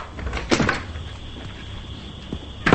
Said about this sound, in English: Now Jim opens the door to his motel room.